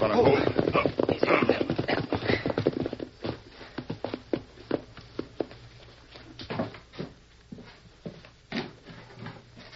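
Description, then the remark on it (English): Horse hooves clip-clop in an uneven rhythm as riders ride to the back of a house, loud and busy at first, then thinning to sparser, quieter hoofbeats that keep plodding along. “We ride to back of house, Dan.”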